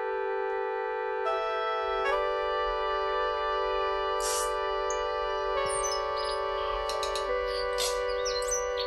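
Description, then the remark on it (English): Sustained, layered electronic tones from a MIDI demo of a new orchestral piece hold steady while short, bright chirps and clicks flicker above them, mimicking the song of the tui, a bird endemic to New Zealand. No one speaks. “That's the tui. And it's an extraordinary kind of bird that's endemic to New Zealand.”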